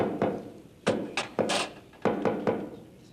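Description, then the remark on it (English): Someone raps on a door in a quick, patterned rhythm: about seven solid knocks in uneven groups, fairly loud, with no voices over them. “Oh, that knock is getting so popular, pretty soon it's gonna be in the top 40.”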